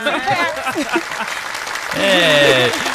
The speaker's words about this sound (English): Snaps and claps